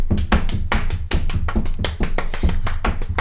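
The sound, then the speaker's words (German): Many people stomp their feet together, a dense, continuous rumble of overlapping thuds imitating a crowd of many people trampling along the streets, with strong low-end impacts and a steady, slightly uneven rhythm. “Die trampelten richtig mit ihren Füßen. Könnt ihr das mal mitmachen?”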